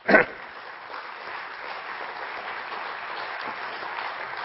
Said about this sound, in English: I request first of all you all to give a huge round of applause for the organizer